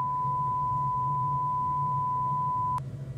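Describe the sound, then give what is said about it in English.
A steady, loud censorship bleep tone holds for nearly three seconds over a low hum, cutting off abruptly with a brief click before the background continues. “Where the hell did the beeps come?”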